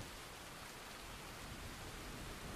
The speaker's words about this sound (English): Please close your eyes, relax, and enjoy the sounds of this incredible thunderstorm while I read to you.